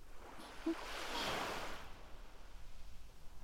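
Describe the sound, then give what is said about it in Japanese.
Ocean waves wash in and out, a broad hiss that swells to a soft crest and then recedes into a lower, steady rush of surf. No voices are present. “都会の喧騒から離れて、海の音って引いて寄せての繰り返し。でも不思議と聞き疲れしなくて眠たくなっちゃいますよね。”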